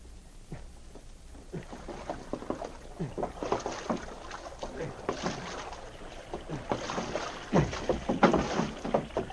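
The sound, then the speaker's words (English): A canoe being paddled through water, with repeated splashes and drips from the paddle strokes in an uneven but steady rhythm, growing slightly louder toward the end. “Jim tied his canoe at the stern of the steamer.”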